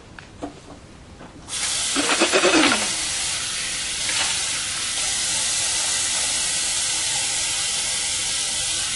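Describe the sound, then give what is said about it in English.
A kitchen tap turns on after a couple of soft clicks, and water gushes steadily with a bright, hissing rush that splashes louder early on, then runs on evenly, as someone gets a drink of water. “I'm taking you into the kitchen, where I'm going to have a drink of water.”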